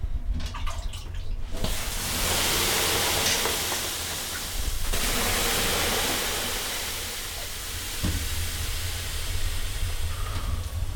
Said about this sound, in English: we head back in for another round, and Mike starts up the main event, pouring water on the rocks